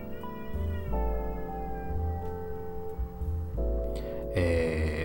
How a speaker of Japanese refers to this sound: 猫が泣いてる声うまく入ったかな。うちの近所すごい猫が多くて、もう夜中とかにゃーごにゃーごうるさいぐらいなんですけど、